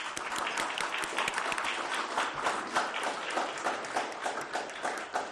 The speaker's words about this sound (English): First of all, what we need to do is welcome a new councillor to the chamber, Councillor Laura Beach for Yoxall. Maybe we should give her a round of applause, I think